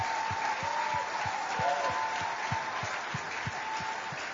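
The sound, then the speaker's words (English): A large crowd claps in sustained applause to celebrate Pastor Kpochu, a dense steady patter of many hands, with a regular low thumping beat running underneath. “Please clap.”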